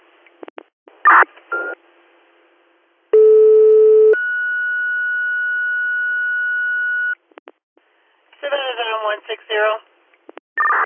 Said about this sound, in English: Stabenda AMR, if you just got a second set of tones, disregard.